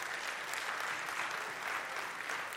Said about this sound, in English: This week, 115 of your little ones from National City, the Polis National, came out to hear this truth. Can you give the Lord Jesus a round of applause? 115.